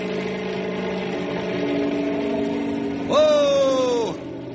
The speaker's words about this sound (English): If the copter vibrates a lot, don't think it's falling apart. I'm going to have to rev it up for better stability. Here we go. How's it look? Fine. I'll take the copter straight up.